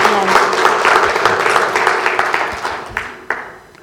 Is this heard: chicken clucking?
no